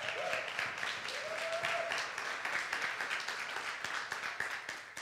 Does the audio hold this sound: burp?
no